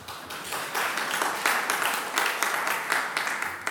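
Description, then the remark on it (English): An audience applauds steadily for several seconds, a dense wash of many hands clapping, fairly loud and continuous with slight swells, no speech over it. “You can clap if you want to.”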